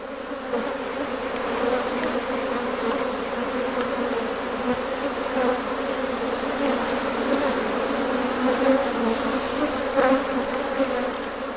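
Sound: honeybees buzzing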